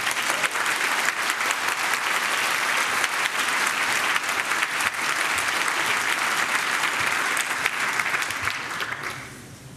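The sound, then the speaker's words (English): An audience at a talk applauds steadily for the next speaker, a dense wash of clapping that stays loud and continuous for several seconds before tapering off at the end. No one speaks over it. “please give us a warm round of applause for our next speaker”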